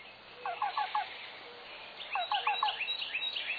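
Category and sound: bird, black-billed cuckoo call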